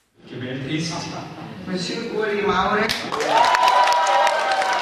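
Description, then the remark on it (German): A lively crowd of about 50 men and women in the Hirschen in Hinwil, canton of Zurich, cheers and claps for Ueli Maurer after following three election ballots on a big screen; voices rise into a loud, sustained roar with dense applause, growing louder partway through and continuing to the end. “Der Jubel war groß im Hirschen in Hinwil, wo rund 50 Männer und Frauen die 3 Wahlgänge vor der Großleinwand mitverfolgt hatten.”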